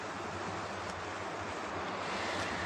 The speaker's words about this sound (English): Isn't it beautiful? The sea. Beautiful. Powerful. Don't you feel it?